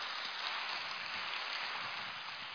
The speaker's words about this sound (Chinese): 给他鼓掌呀。